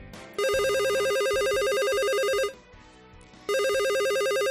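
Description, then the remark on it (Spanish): A telephone rings loudly in two long bursts separated by a short pause, each a rapid, warbling electronic trill with a bright, buzzy tone over a faint low background; the ring stands for a call from health services in Madrid giving a vaccination appointment. “El sonido de una llamada, de un teléfono, de ese que esperemos cuanto antes suene, que es de sanidad y que es para darnos cita para vacunarnos.”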